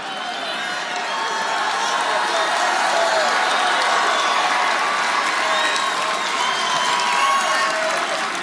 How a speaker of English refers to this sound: It's hard to apologize when the crowd gives you a 5-second applause break for admitting you say the wrong thing.